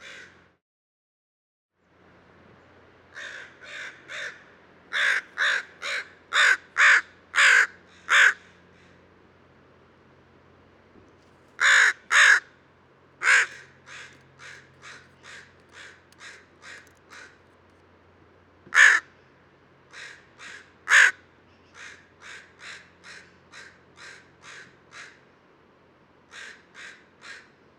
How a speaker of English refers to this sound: And this gun's the same bird as the last fowl. There's another one in the distance.